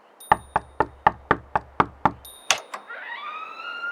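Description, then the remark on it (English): Eight evenly spaced, sharp knocks rap on the wooden front door of a tavern, followed by a couple of softer thuds and a rising, whooshing tone as the knocking stops. “No, it's the front door, and that wasn't my knock.”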